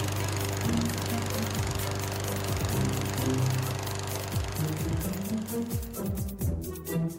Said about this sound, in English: First, get yourself a stake, some rope, and a self-propelled lawnmower. Tie up your lawnmower. Fire her up. Let her rip.